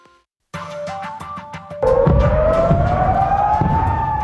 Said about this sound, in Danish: Luftsirenerne i Israel lørdag aften advarede ikke blot om droner og missiler. De symboliserede også, at den aften blev endnu en grænse i Mellemøsten overskredet med Irans direkte angreb på Israel.